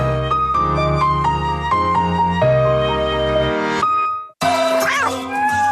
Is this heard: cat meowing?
yes